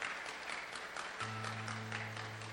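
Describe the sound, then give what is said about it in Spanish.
An audience at a church service applauds God, a dense, continuous wash of many hands clapping, with a low sustained organ or keyboard tone entering halfway through beneath it. “Dale otro fuerte aplauso a Dios.”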